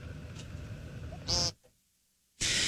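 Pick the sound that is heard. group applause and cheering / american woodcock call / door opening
american woodcock call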